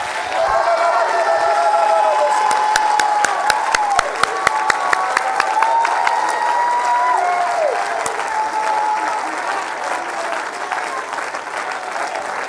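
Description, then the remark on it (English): A large audience claps and cheers loudly and steadily, with whoops and shouted voices rising over dense, continuous applause that fills the space for several seconds before easing slightly. “Come on, why don't you clap your hands wholehearted?”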